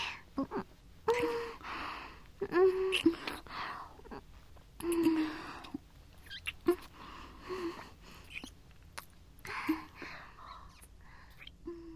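Soft, gentle kissing sounds repeat at an irregular, unhurried pace, with light lip smacks interspersed with quiet breaths and faint murmuring hums, all at a low, intimate volume.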